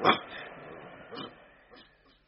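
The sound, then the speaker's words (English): A dog growls and snuffles, a loud snorting burst followed by two softer grunting sniffs, with low rumbling in between and no voices. “It is two people with a dog.”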